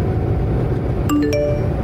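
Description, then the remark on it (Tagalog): A short phone notification ding in a car while someone is driving: a few quick bright chimes ringing out over steady low road and engine rumble, with no talking. “Uy, mamaya na phone mo.”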